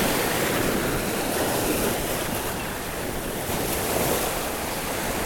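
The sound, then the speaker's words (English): Ocean waves wash onto the beach at Pompano Beach, Fort Lauderdale, in front of a Marriott resort and spa, in a steady, continuous loud roar, with a brief slight lull midway and a touch of wind noise; no one speaks. “The beach. That's why the water's wet.”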